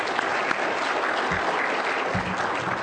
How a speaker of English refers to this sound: Let's give a round of applause for our sound guys for doing this every week.